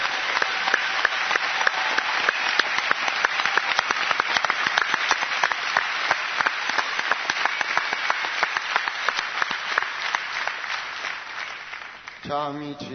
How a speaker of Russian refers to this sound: Давайте встретим бурными аплодисментами